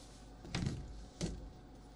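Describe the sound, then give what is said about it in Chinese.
A door is opened for an arriving visitor: a short clunk of the latch, then a second softer thud a moment later, with no talking. “我情人到了，别碰我，我去开门。”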